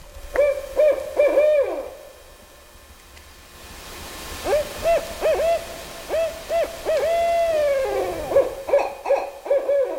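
A barred owl hoots in a series of loud calls with rising and falling inflections, pausing briefly before launching into another rhythmic run of hoots over a soft background hiss.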